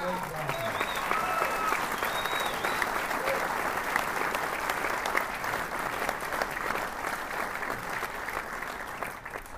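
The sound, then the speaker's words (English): Sustained audience applause at a convention for the sound engineers, a dense, steady wash of many hands clapping at even loudness for several seconds, with a few faint cheers and voices mixed in at the start. “Big round of applause for the great sound engineers”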